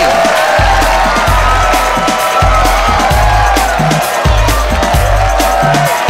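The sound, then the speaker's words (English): A live television studio audience cheers and applauds steadily throughout, loud, mixed with upbeat music carrying a pulsing, stepping bass line. “We got ourselves a real nice crowd here tonight.”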